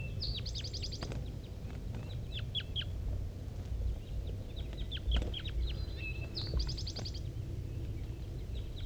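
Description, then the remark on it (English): Wild birds, one sitting in the top of a dead pine and another flock coming from the bottom of a hollow, calling in quick bursts of high chirps and whistled notes, with two brighter trilled phrases, over a steady low rumble of background noise. “More wild birds are coming around.”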